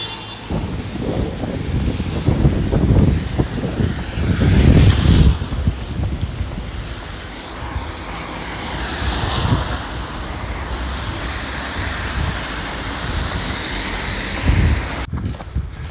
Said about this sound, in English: So it's pouring rain. We're entering Santiago